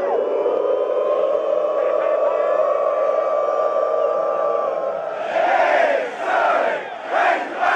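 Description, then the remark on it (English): A huge stadium crowd of University of Arkansas Razorback football fans at a football game sustains a long, swelling 'woo' in unison, then breaks into a loud, rhythmic hog-calling chant, 'Pig Sooie', shouting short bursts together. “In case you didn't catch that, that was University of Arkansas Razorback fans wooing Pig Suey. They're cheering. Well, it's called calling hogs.”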